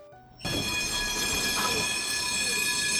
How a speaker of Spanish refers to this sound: El tranvía frena de golpe.